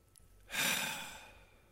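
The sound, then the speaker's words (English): A single long, deep exhale of breath during a guided prayer breathing exercise, breathy and airy, starting abruptly, then slowly fading away over about a second, with no talking. “Breathe in grace. Exhale and release the shame.”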